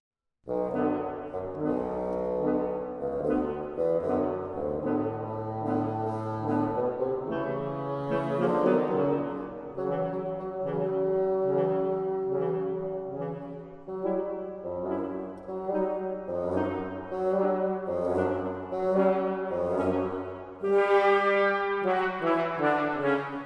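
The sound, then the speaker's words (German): A bassoon, representing the grandfather character, plays a low, lumbering melody of held and shorter notes, steady and fairly loud throughout, with no voices present. “Das Fagott stellt den Großvater dar.”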